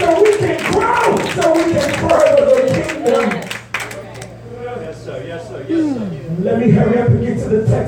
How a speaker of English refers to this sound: I need you to clap your hands right now and say, God, speak to us. Give us exactly what we need.